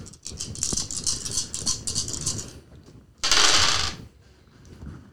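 Several eight-sided dice clatter and tumble across a hard tabletop during a tabletop role-playing game, in quick, irregular clicks, followed by a louder, brief rushing rattle before fading to quiet. No one speaks.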